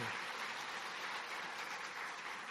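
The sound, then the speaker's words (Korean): A church audience at a service claps steadily in a dense, continuous wash of applause that fills the whole stretch at an even level, welcoming three newcomers. “우리 세 분 한번 우리 박수로 환영하겠습니다.”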